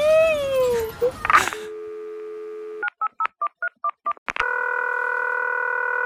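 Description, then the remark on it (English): A steady telephone dial tone gives way to about seven quick, evenly spaced touch-tone beeps as the number of the Esmeralda Hotline, a phone psychic line, is dialed, followed by a continuous ringing tone. A brief burst of other sound comes first. “Hello, you've called the Esmeralda Hotline. I am a phone psychic.”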